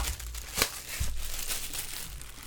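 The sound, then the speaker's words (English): Plastic bag crinkling and rustling as a Lovett tempered glass screen protector is pulled out of it, with a sharp crackle near the start and another snap a moment later, then steady softer rustling. “so we'll pull it out of its plastic bag here really quick.”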